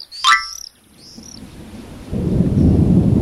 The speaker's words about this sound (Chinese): 下雨喽，他们冲进山洞里躲雨。